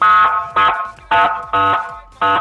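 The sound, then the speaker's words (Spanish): A car horn honks five times outside a friend's house in celebration, in a steady rhythm, each blast short and loud, with brief gaps between them and no voices. “A las 20 horas voy a estar afuera de tu casa tocando la bocina, así.”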